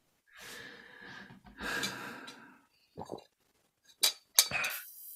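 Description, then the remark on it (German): Glasses clink together in a toast, two bright ringing taps in quick succession, surrounded by breathy sighs and a sharp intake of breath as drinks are sipped. “Wie gesagt, wir vergessen nicht, was los ist, aber bisschen Stammtisch muss jetzt auch sein. Prost. Prost.”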